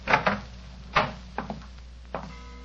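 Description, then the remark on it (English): A bedroom door being opened, with a cluster of wooden thumps and clicks from the latch and handle, then a couple of lighter knocks as it swings and settles. No voices. “Where does this door lead to?”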